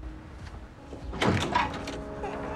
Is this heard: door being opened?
yes